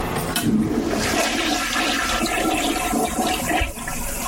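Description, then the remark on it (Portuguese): A toilet flushes loudly, a steady rushing gush of water that fills the whole few seconds with broad hissing turbulence, no voices present. “Desculpe, o botão do mar estava do botão da casa de banho.”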